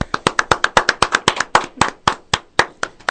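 A small group of guests in a production booth applauds, with sharp, distinct claps landing in a quick, uneven rhythm that slows slightly toward the end. Only a few people are clapping, and no one talks.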